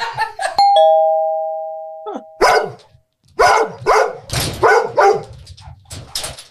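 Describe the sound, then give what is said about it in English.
A doorbell chimes once with a sustained ringing tone, then dogs erupt into a string of loud barks that repeat rapidly for several seconds. “Why do humans think we freak out every time we hear a doorbell?”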